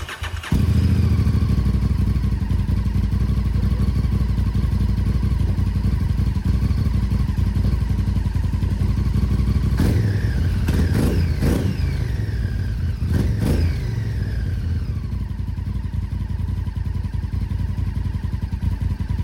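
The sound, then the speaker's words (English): A motorcycle nicknamed the Super Chicken, with a newly installed ignition switch, cranks and catches, then settles into a loud, steady idle, with several sharp revs around the middle before dropping back to a rumbling idle. No one speaks. “I already have the ignition wired in, and it runs.”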